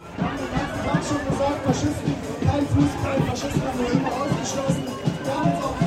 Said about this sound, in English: I'm making my way through a huge crowd of protesters. They're here because just up the road, the party Alternative for Deutschland is holding its annual conference.